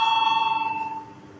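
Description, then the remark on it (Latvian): A parliament voting bell, rung before a vote on a proposal, sounds continuously with a bright, buzzing metallic electric tone and fast tremolo, holding for about a second before fading as the ringing stops. “Lūdzu zvanu balsosim par pirmo deputāti Girdjana iesniegto priekšlikumu.”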